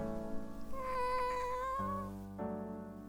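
A single long, drawn-out cat meow, fairly loud, wavering slightly in pitch over a steady low droning hum that continues after it fades.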